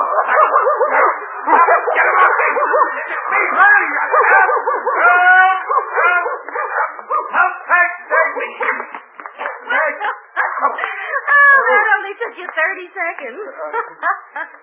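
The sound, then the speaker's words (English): A dog barks, snarls and yelps in a frantic, continuous struggle as it attacks a man, who cries out and shouts over the commotion for the whole stretch. “That beast almost killed me. You trained him. Not to attack me, just Dawson.”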